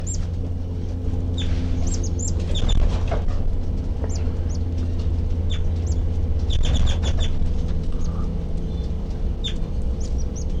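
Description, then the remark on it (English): Baby birds peep in a nest, recorded from right underneath it, with repeated thin, high-pitched chirps, sometimes in quick clusters, over a steady low background rumble. No one speaks. “The baby birds are peeping, and I'm right underneath the nest.”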